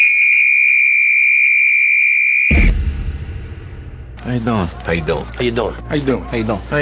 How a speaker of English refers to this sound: The clock starts on my whistle.